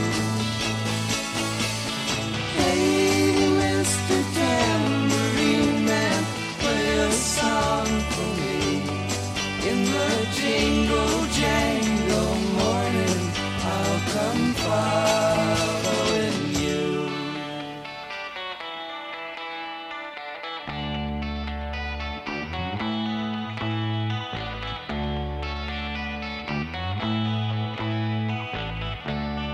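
A 1960s folk-rock song plays steadily and fairly loud, with shimmering, chorus-like electric guitars over a full band; the arrangement thins out for a stretch past the midpoint before picking back up. It is played on Ràdio Vilafranca, a classic rock radio station.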